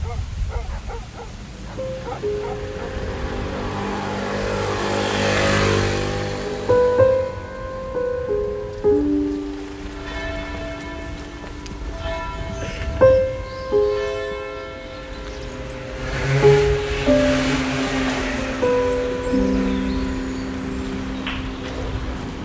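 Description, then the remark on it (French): Outdoor ambience of the market square in Château-Gontier on a sunny day: a steady wash of open-air background noise with sustained, shifting musical tones drifting through it and occasional louder bursts, no one talking. “On est sur une petite place. On est sur la place du marché de Château-Gontier.”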